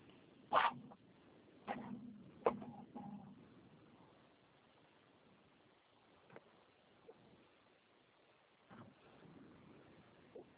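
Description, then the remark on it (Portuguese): Rustling and clattering as someone rummages through objects to fetch a pen, with several sharp bursts in the first few seconds, then quieter scattered clicks and knocks. No one speaks. “Deixa eu pegar a caneta aqui.”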